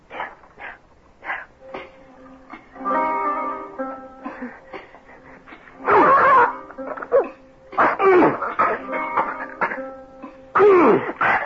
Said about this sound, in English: Get rid of that cough for you, didn't I?